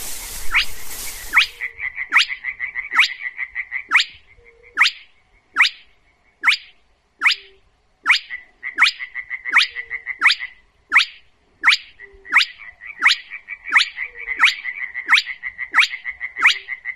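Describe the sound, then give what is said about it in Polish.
A spotted crake calling, filmed on a phone by an ornithologist: a long series of sharp, whiplike whistled notes, repeated steadily about once every half second, over a continuous buzzing trill and a brief rustle at the start. “Kropiatkę w życiu słyszałem bardzo wiele razy.”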